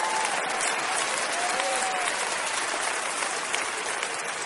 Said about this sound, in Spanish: Usted debe estárselo recordando a ella, y todas las que están aplaudiendo son mujeres.